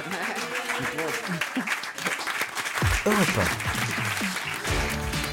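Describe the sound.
An audience applauds steadily and loudly throughout, a dense wash of clapping to thank a guest, while several voices talk and call out over it.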